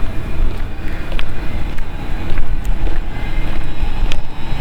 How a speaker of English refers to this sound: There comes another train.